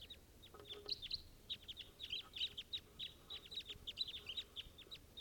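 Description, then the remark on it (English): A flock of five birds calling as they take flight: a steady stream of quick, high-pitched chirps and twitters that overlap throughout, fairly faint over a low rumbling background, with no talking. “This is the flock in flight.”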